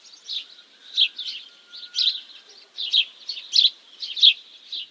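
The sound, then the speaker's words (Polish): Sparrows chirp in a steady series of short, bright calls, about two per second, clear with no other sounds around them. “Mazurek na białym policzku ma czarną plamkę, a wróbel domowy nie.”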